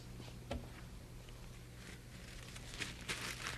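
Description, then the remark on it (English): Soft, papery crinkling and rustling comes in scattered bursts as tissue paper is handled to make a kazoo with a comb, quiet overall with a steady low hum beneath and no talking. “Let's get some tissue paper, and I'll show you.”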